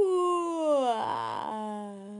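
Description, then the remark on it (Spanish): A single long, drawn-out yawn voiced by a person as a sleepy tortoise yawning again, sliding down in pitch, breaking into a breathy stretch in the middle, then settling into a low, steady hum as it trails off. “Volvió a bostezar.”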